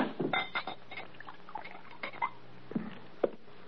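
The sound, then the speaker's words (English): A drink is poured into a glass, the liquid splashing unevenly while glassware clinks lightly a few times; no one speaks. “Pour this down.”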